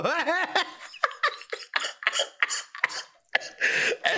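A man coughs repeatedly in a rough, broken fit, short harsh bursts tumbling one after another after a brief strained, voiced start, close and fairly loud with no talking.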